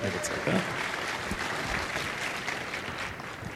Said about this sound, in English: Oh, let's have a round of applause, please.